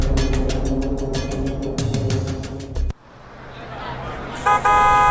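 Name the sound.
jeepney arriving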